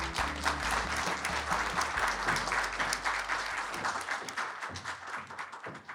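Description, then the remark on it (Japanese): Sustained applause from an audience at a Tokyu REIT (Tokyu Real Estate Investment Corporation) IR seminar in Tokyo, welcoming the asset management company's president; a dense wash of many hands clapping steadily for several seconds, slightly thinning toward the end, with a low hum beneath. “大きな拍手でお迎えください。”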